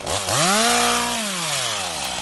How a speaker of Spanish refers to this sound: Si hubiéramos venido hace unos meses, ese silencio se hubiera roto por las motosierras.